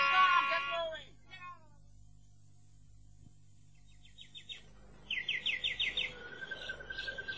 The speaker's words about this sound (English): The feathered kind. The ones that live in cages and fill this room with song. They bring joy to me, you know.